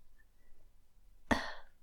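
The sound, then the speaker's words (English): After near silence, a single sharp, breathy hitch catches in someone's throat behind a screen, fairly loud, as their breathing quickens, then fades quickly into a short rasping exhale. “Father, is your breathing quickening? Is that your breath? Fuck, hitching in your throat.”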